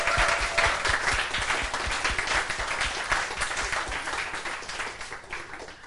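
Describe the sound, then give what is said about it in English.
A crowd breaks into steady, sustained applause for a couple, many hands clapping at once in a dense, even wash that holds loud for several seconds and tapers only slightly. “Can we just give a round of applause to this incredible couple?”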